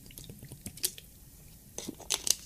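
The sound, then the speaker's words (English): Someone drinks water: faint wet mouth clicks and soft swallowing gulps in a few short bursts, separated by near-silent pauses, with no talking. “But I'm going to drink this fucking water.”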